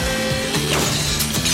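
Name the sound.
glass window shattering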